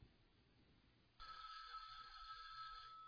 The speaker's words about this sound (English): That's an old telephone ring, if y'all didn't know that. Y'all remember that telephone ring?